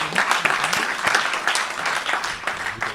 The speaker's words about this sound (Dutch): Dat was dat. Ja, applaus.